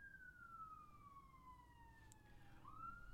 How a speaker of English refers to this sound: What's that? A siren?